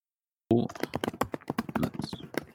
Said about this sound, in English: Oh. Wow, is that your keyboard? Yeah. Okay. No. Don't play on that. It does sound like you're tap dancing.